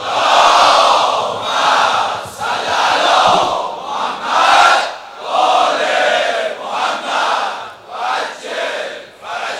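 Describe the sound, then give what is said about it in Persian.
A large religious gathering chants salawat heydari together in unison, dedicated to Imam Ali, on the 23rd night, the likely Night of Qadr; a loud, dense wall of voices rising and falling in rhythmic surges over several repeated phrases. “نثار امیر المومنین و بچه های امیر المومنین جهت تعجیل در فرج آقامون، همه جلسه صلوات حیدری بفرستن.”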